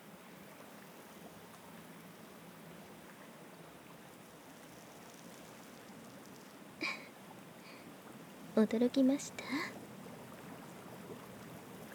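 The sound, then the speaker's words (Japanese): A steady, rushing wash of bubbling water churns continuously from a bath's jet bubble function switched on for massage, with a brief spoken question from a woman rising over it near the end. “今度は気泡湯に切り替えて引き続きマッサージを行っていきます。”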